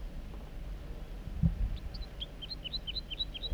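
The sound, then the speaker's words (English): A wild male bird sings from the top of a big dead snag on a hilltop: a quick run of about a dozen high, clear whistled notes at a steady rhythm, over a low background rumble with one brief thump before the song. “The juvenile is joining the wild male, who's singing from the top of that big snag at the hilltop. Song of the wild male.”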